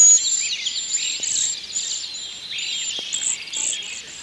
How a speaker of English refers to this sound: Cedar waxwings sound like tiny mice snoring.